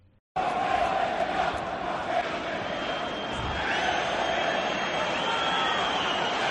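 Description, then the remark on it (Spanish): A large football stadium crowd of Mallorca's supporters' stand chants in unison against Mallorca player Mafeo, a dense, loud roar of many voices holding a steady sung tone that continues without pause from start to finish. “Cánticos contra Mafeo.”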